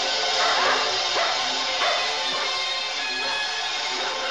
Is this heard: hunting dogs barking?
yes